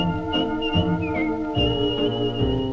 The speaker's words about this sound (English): You ask him why and he'll say, I'm whistling my worries away.